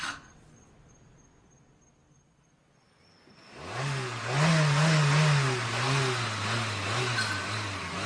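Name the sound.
car engine revving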